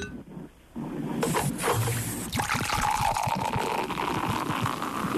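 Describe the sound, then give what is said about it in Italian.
A spritz is poured into a glass, a steady liquid trickle with fizzy, crackling bubbles that rises slightly in pitch as the glass fills, heard alone without talking. “No, è uno spritz.”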